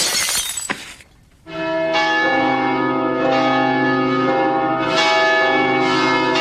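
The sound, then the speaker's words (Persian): A brief crash gives way to castle bells ringing loudly, with fresh strikes every second or so layering over a rich, sustained, humming tone. No one speaks. “پسرم صدای زنگارو میشنوی کل قلعه از خوشحالیه.”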